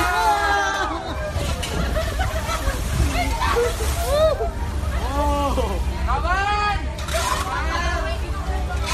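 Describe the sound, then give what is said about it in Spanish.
Waves carrying thousands of pieces of plastic slosh and wash in steadily at Manila, Philippines, where many shovels are at work, beneath a loud crowd of overlapping voices calling and chattering, with occasional splashes. No distinct scraping stands out. “Poco relax hay ahí y muchas palas removiendo, porque las olas que llegan a Manila, en Filipinas, no suenan como las que hemos escuchado al principio, suenan a golpetazo limpio, porque esas olas arriban y llegan con miles y miles de plásticos.”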